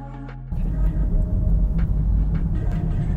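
car driving noise

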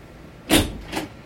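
door opening

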